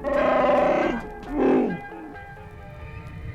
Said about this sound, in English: Han's co-pilot, Chewbacca, a shaggy 8-foot Wookiee, roared his agreement.